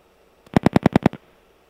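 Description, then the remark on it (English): The rotary dial of a Western Electric Bell telephone clicks out a number: a quick, evenly spaced run of about six sharp, hollow clicks, roughly ten per second, heard alone with no talking. “It didn't sound like a rotary 7 either, actually. It sounded like a 4. But that tells me that you're on a rotary phone.”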